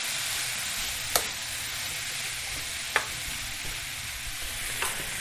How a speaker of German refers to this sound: So, der Lauch ist jetzt schon so ein bisschen angebraten. Jetzt kommen die Birnen dazu in die Pfanne. Jetzt wird das nochmal so ein bisschen gerührt und verteilt.